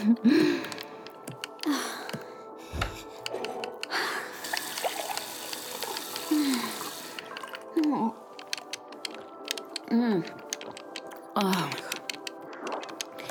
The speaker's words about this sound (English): Oh, just getting some water. Don't mind me.